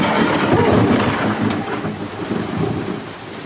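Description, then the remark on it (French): A loud crack of thunder from lightning striking about 30 metres away rolls into a sustained, heavy rumble that fills the whole clip, with rain hissing steadily underneath, during a thunderstorm with flashes all around. “C'est tombé à 30 mètres.”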